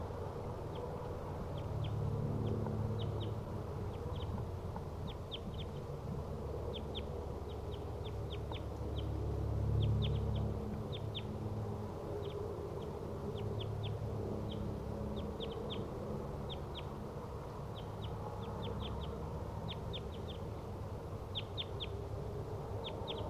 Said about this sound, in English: Wild crossbills are in the treetops, each in a different tree, surrounding the decoy cage, each about 20 to 30 meters away from the cage.